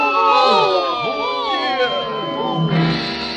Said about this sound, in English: We'll all yell boo at him. Oh, no, not that. Come on, everybody, now. 1, 2, 3. Boo! Boo! Boo! Boo!